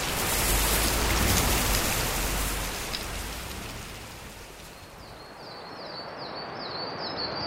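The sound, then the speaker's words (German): A steady, loud roar of a torrential river's rushing floodwater that eases slightly partway through, while a bird repeats short, high chirps in a quick series over the last few seconds. “Bald ergreifen die Wassermassen die Tüte und der reißende Fluss trägt sie mit sich.”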